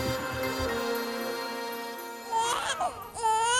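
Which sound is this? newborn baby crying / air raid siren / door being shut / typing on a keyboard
newborn baby crying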